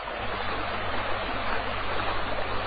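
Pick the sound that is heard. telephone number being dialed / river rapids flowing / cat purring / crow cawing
river rapids flowing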